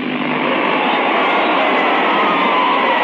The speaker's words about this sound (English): Just the sound of some of the crowd enjoying their evening at the Carntyne Stadium. If you're not one of the regulars, then you should be, because Carntyne Stadium offers the very best in an evening of greyhound racing.